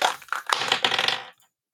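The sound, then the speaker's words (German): Dice are rolled to pick a discussion topic, rattling and clattering loudly for about a second, a dense burst of hard little clicks tumbling together before stopping abruptly on a 2, with no talking. “Jens, dein Thema, ich würfel mal für dich.”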